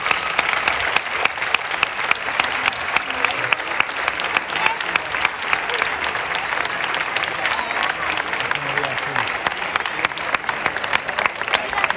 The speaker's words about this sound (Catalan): Un fort aplaudiment al cel per tots ells.